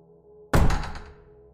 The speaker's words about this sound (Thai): ชายหนุ่มเตะประตูให้เปิดกว้างออก